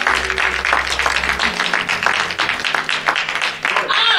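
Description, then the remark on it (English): An audience claps hands as praise to the Lord in a dense, steady burst of applause lasting several seconds, loud and continuous, with a low hum underneath and murmured voices mixed in. “Give it to the Lord a hand clap of praise for being about it.”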